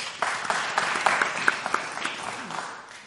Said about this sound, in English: Yeah. Round of applause.